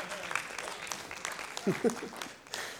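A church audience claps steadily, a dense patter of many hands with no clear rhythm, while a voice briefly speaks over the applause partway through.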